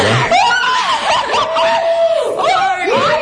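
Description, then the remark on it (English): Several voices shriek and yell together loudly, high-pitched and sustained, with squealing laughter mixed into the excited outburst for a few seconds, in reaction to a singing performance. “Who's yelling like that?”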